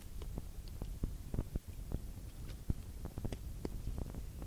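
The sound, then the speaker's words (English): Someone quietly sips water: faint, irregular wet clicks and soft swallowing sounds over a low rumbling background, with no one talking. “I'm going to get me a sip of water.”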